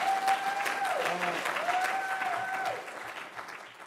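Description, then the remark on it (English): Applause fills the whole clip while a single voice lets out a long, loud, high-pitched scream that wavers and dips in pitch, held above the clapping crowd for about three seconds. “I don't know why that person is screaming so loud, but I hope it's because they agree with this statement that I'm about to say.”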